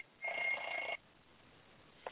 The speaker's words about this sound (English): And somebody get that phone. What the fuck is that noise?